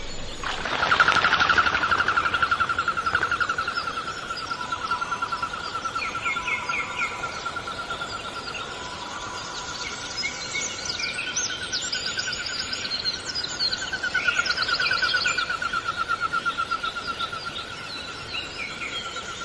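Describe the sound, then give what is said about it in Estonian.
Common goldeneye calls: a steady, wavering whistle-like tone runs through the whole recording, with scattered sharper bird chirps and calls above it in an open outdoor setting; no one speaks. “Meil on tema ka üsna tavaline lind, aga üldiselt on tal enam põhjapoolne liik sõtkas.”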